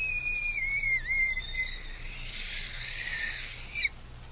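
An old, battered, musty little tin whistle is blown in one long breath: a thin, wavering high tone that dips briefly, then turns breathy and airy before ending with a short shrill squeak. No voices.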